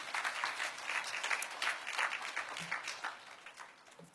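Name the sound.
audience clapping hands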